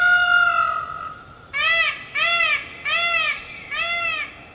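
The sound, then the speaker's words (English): A peacock screeches: one long, sustained, high wail, then four shorter arching cries in a steady rhythm, each loud and piercing, with no voices over them. “The peacocks also devour flowers, they poop everywhere, and I can attest to this, they screech from rooftops at 3 in the morning.”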